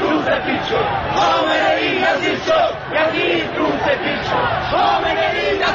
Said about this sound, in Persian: مردم سینه می زنند و شعارهای اعتراضی سر می دهند.